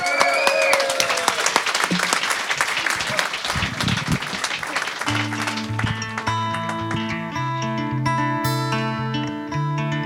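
Loud audience applause, a dense crackle of many hands clapping with a few whistles early on; after about five seconds music starts and the clapping carries on beneath it.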